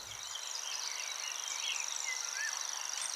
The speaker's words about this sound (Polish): Tak, bowiem ptaki trzcinowe, niezwykle interesujące. Te wszystkie takie skrzypiąco, trzeszcząco, trykoczące. Haha, to jest świerszczak.